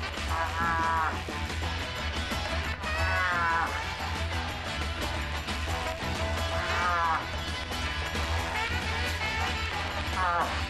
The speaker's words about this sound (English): When he approaches the place on where the call is made, it will be... The bull moose, in search of the cow moose, cries this way.